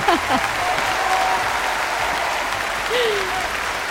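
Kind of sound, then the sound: crowd, applause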